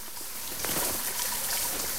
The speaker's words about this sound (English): Later, Jimmy's washing his bag in the shower block.